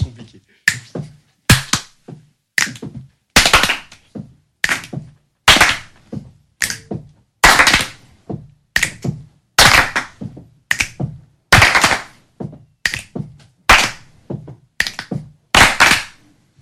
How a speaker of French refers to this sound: et on va se quitter comme ça sur la petite présentation que tu nous as faite tout à l'heure de la musique corporelle.